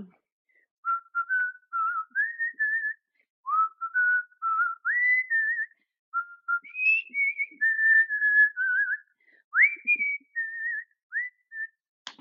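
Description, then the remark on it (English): A person whistles a melody, the clear tones gliding between notes with a fluttering, bird-like vibrato trill, phrases broken by brief pauses for breath, no talking over it. “Like, you give me a song and I may not know it, but like, I am really good at just whistling. Well, I need a demonstration.”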